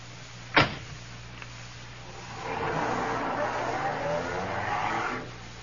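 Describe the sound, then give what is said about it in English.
A car door thuds shut, then after a short pause the car's engine starts up and idles steadily for a few seconds before cutting off. “Come along, bring your bag. The car's right here.”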